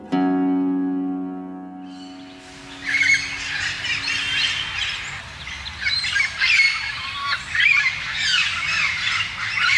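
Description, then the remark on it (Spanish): After a brief steady humming tone, a yellow-cheeked amazon parrot (Amazona autumnalis) breaks into loud, harsh squawking calls that repeat in rough bursts for several seconds, unaccompanied by any talking. “Loro de mejillas amarillas, de nombre científico Amazona optumnalis, pertenece al orden de los citaciformes y a la familia citácidos.”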